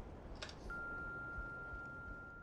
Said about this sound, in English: Please leave a message of sorts after the beep, and again, wait for the tone before you leave your message.